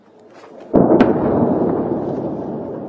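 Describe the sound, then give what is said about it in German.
A sudden heavy explosion from an Israeli fighter jet strike on Hezbollah facilities in Beirut, Lebanon, booms out of a quiet background, followed by a deep rolling rumble that lingers and slowly fades, echoing across the city as thick smoke rises over its south. “Wieder Explosionen über Beirut. Israelische Kampfflieger zielen auf Einrichtungen der Hisbollah.”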